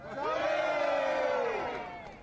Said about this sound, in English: I want to ask everyone who's heard of Tony Marks to scream loud.